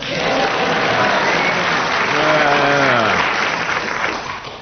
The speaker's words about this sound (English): They all clapped. They agreed with you.